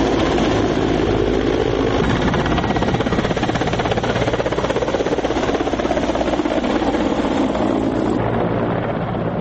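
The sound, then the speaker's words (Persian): A newly armed Mi-17 military helicopter, flown by Afghan pilots on a test flight at a base near Kabul, roars steadily and loudly, its dense rotor thrum and engine whine filling the whole stretch without pause, with no voices present. “پیلوتان افغان در پایگاه نزدیک به کابل پروازهای آزمایشی و تطبیقات طیاره های مسلح شده نو می-17 را انجام می دهند.”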